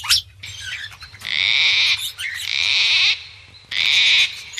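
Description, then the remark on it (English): An Australian red-rumped parrot sings, opening with a few quick chirps, then three loud, sustained bursts of high, rippling warble separated by brief pauses, over a faint low rumble. “Its song might sound pretty enough, but straight from the mouth of Australia's red-rumped parrot comes a dire warning to all the inhabitants of this planet, humans included.”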